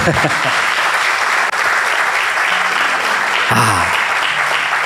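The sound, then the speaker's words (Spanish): A church audience applauds loudly and steadily for about five seconds at the preacher's call, a dense wash of clapping with a few voices calling out and cheering over it. “Aplaudan eso, aplaudan.”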